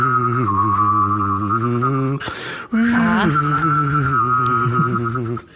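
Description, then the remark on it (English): A person whistles and hums at once, attempting a tune, making a wavering, eerie 1950s sci-fi UFO sound. A steady high whistle rides over a low buzzing hum, broken by a short breath midway before resuming. “I'm sorry to interject, but since you mentioned 1950s sci-fi, would you like to hear me whistle and hum at the same time to make a UFO sound?”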